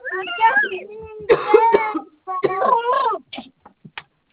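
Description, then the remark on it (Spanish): A loud coughing fit from a person during a phone call: several harsh, rasping coughs come in clusters, then taper off into a few short, quieter hacks at the end. “Aquí un momentito, por favor, sino que me ha dado disculpe, viste la llamada, un acceso de tos.”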